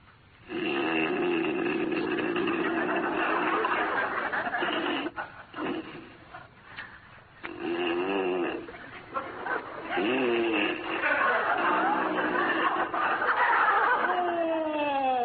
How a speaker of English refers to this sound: This has been going on since 9 o'clock. Something that'll put a stop to that hideous snoring.